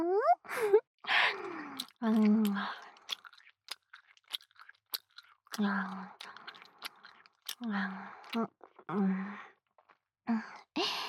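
Wet, sticky gum chewing right at the listener's ear, with irregular sharp clicks and smacks, mixed with soft breathy vocal sounds like sighs and murmured hums between the chews.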